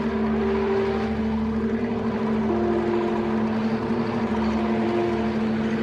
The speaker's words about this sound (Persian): مش اسماعیل پشت فرمون تراکتور نشسته. مالک کنارشه. زوغ زده است. تو زمین کشاورزی دارن رانندگی میکنن.